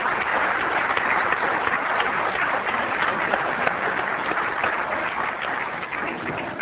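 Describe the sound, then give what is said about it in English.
A steady round of applause from a crowd, dense clapping that holds at an even, fairly loud level for several seconds with no voices standing out. “And I think I'd like to personally give a little bit of a round of applause for those people who aren't here right now but who made it possible for us, because I don't know where I'd be without you.”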